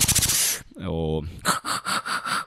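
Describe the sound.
A beatboxer produces rhythmic inhaled breath sounds: a noisy rasp, a pitched vocal sweep, then a string of quick, evenly spaced breathy hisses, fairly loud with no words.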